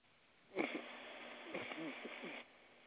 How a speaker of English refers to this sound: Bless you.